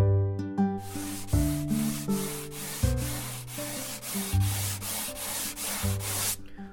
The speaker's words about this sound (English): When I'm sanding, I'm listening to the sound of the sandpaper, which can change a little bit as I remove the wood. It kind of gives me an indicator of when to stop.